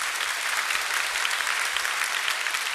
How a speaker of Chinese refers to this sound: 哈利路亚，再次拍手给上帝。